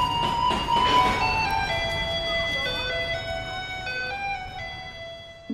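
A garbage truck in Taiwan rumbles down a street, its tinny electronic melody of Für Elise ringing out over a low engine rumble, the chiming tune playing steadily.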